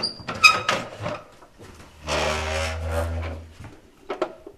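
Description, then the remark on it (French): A heavy iron door of an antique safe is worked open: clanks and clicks, then a long low grinding creak with a deep rumble, followed by a couple of sharp knocks. “En tout cas, voilà, une porte de fer.”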